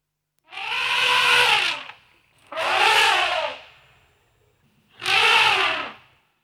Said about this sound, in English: An elephant.